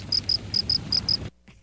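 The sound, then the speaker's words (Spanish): Crickets chirp in a steady, high-pitched pattern of six short paired pulses over a low background hum, ending abruptly into near silence. “Bueno, y los grillitos, a la verdad, interpretan música que suena un poco monótona.”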